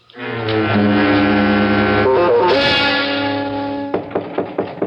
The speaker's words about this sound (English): Come in. Well, that's a new one. I've never heard of a jail where the guard knocks before coming in to see the prisoner.